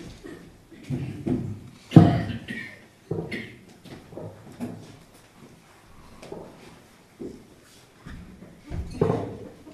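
Wooden knocks and thumps of a chair being carried over and set down, with one sharp bump early on and several softer clunks and shuffles following.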